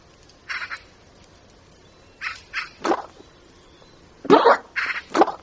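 A marsh bird, an espernancelle, gives noisy, raspy courtship display calls in short bursts on the marsh, a few grouped together then a louder cluster near the end, with no other sounds.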